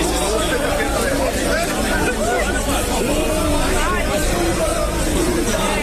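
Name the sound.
football supporters chanting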